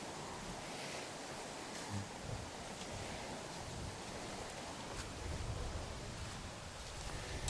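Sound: sea waves lapping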